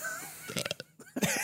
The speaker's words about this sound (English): Oh, I'm gonna burp.